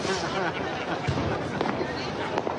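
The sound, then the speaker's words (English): Fireworks on New Year's Eve pop and crackle in a few sharp bursts against a constant wash of crowd noise, with voices talking throughout. “It's said to be accurate with the fireworks, but it seems like nobody listened,”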